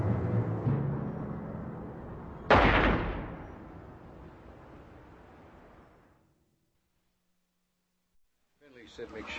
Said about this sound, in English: Neighbors heard a gunshot, but nobody bothered to check it out.